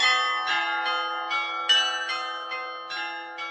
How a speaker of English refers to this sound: This instrument was inaugurated in 1695 in August during Fest of Virgin Mary, and nowadays it's one of original carillon instrument in Czech Republic.